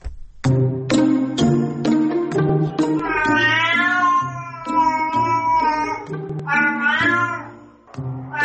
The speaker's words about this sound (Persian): ایرانی ها با انواع صداهای گربه ها ناآشنا نیستند، اما فهمیدن معنا و مفهوم این صداها داستان دیگری است که اینک برخی از پژوهشگران میگویند به کمک هوش مصنوعی موفق به رمزگشایی از آن شدند.